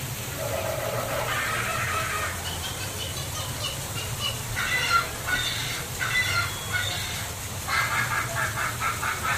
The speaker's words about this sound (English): Suddenly, the treetops explode in a frenzy of outraged birds.